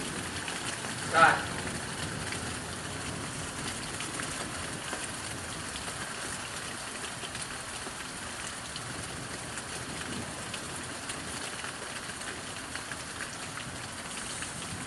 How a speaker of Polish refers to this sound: Teraz zobaczę, jak tu pada. No dosyć mocno. Duża jest ulewa, no nie?